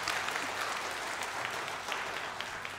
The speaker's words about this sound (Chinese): 相信大家和我一样都非常享受我们刚才不论是儿童视频还有我们的儿童诗班，再让我们以热烈的掌声来给他们鼓励好不好？